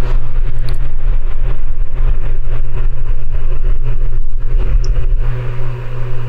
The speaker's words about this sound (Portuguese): Nossa, nada, fez um barulhão. Ventilador, né, cara?